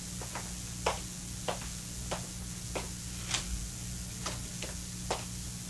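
A clock ticks steadily with crisp, dry clicks about every half second, set against a low constant hum, with no one speaking.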